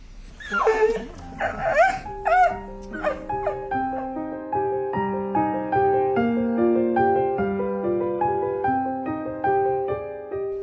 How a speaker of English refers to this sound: He's really sad is the dog.